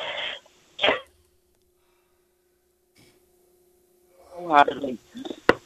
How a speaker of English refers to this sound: They reckon that a rusty nail is good for a cough like that.